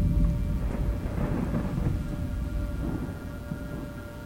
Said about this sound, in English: And then came the storm.